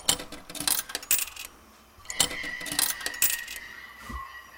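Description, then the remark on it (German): Metallic clinks and rattles of three tokens dropping into the coin slot of a machine, several bright jingling bursts in quick succession, fairly clear, with a soft electronic tone sustained in the middle. “dann werfe ich halt meine Tokens ein”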